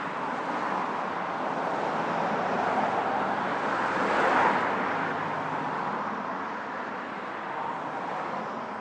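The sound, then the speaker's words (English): A bus approaches and pulls in to stop, its engine and road rumble swelling briefly before settling, over a steady wash of traffic noise with no voices. “This one's stopping.”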